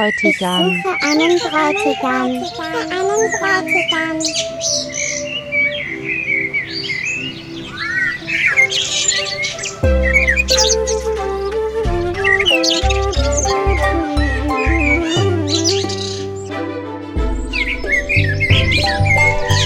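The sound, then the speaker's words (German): Blackbird song: bright, fluting chirps and whistled phrases trill clear, then continue over a steady, rhythmic musical accompaniment with a deep bass pulse. “Amseln wollen Hochzeit machen und pfeifen hoch vom höchsten Stamm.”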